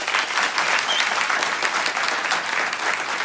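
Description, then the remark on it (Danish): An audience applauds steadily for a few seconds to vote on whether a score is a 9, a dense, even wash of many hands clapping at once with no voices standing out. “Klap, hvis I synes, det er 9'er.”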